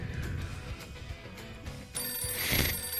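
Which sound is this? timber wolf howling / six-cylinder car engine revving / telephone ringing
telephone ringing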